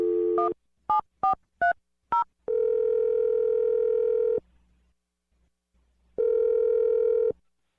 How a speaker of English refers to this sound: All right, here we go. I'm dialing the phone number right now.